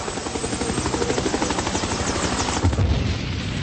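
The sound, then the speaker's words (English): A Huey helicopter circles back overhead over a tank, its rotor blades beating in a loud, steady, rapid thump over a roaring engine whine, with a heavier rumbling surge near the end. “So then the Huey circles back over the tank.”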